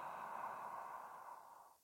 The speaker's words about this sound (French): Grande inspiration, bouche très grande ouverte, déclenchez le bâillement.